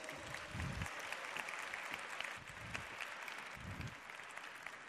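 A crowd applauds warmly and steadily to welcome a doctor giving a talk on weight management, a dense wash of many hands clapping at once that holds at an even loudness for the full few seconds, with no voices over it.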